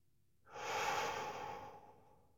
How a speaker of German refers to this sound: Und zwar tief in den Bauch hinein und dann ganz hoch in die Brust, so wie es geht. Also nicht anstrengen, sondern einfach mal probieren. Den Bauch füllen beim Einatmen mit Luft und dann ganz hoch in die Brust atmen.